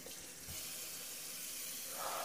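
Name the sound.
water running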